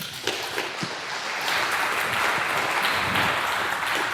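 An audience at a talk applauds a speaker being introduced, a dense wash of many hands clapping that starts with a few scattered claps and swells to a steady, full roar after about a second and a half.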